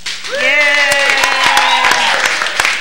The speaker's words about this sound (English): Can I hear a clap?